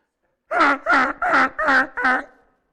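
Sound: goose honking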